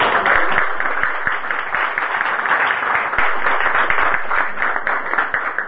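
Warm, sustained applause from an audience for a singer after her performance of her own songs at an art event with painters, before a painting auction: many hands clapping in a dense, steady patter that stays loud and even for several seconds, with no voices standing out.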